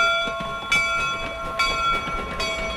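A modern commuter train rolls along with a steady mechanical hum and high whining tones, punctuated by periodic clunks and rattles from the cars, heard from close by with no voices.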